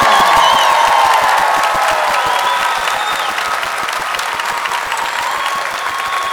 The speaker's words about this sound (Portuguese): Mais palmas, mais palmas! Mais palmas que eles merecem!